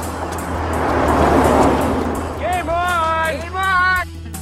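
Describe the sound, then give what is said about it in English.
A car swells in, rushes past with a broad whoosh, and fades away; near the end, voices call out over the lingering road noise. “With delays for cars. Car!”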